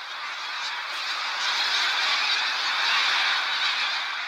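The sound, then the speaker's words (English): A dense, continuous din of many snow geese honking at once, a huge flock calling together in a steady, overlapping wash of sound with no single voice standing out. “Protect the overabundant snow geese, or protect the tundra habitat the geese now degrade?”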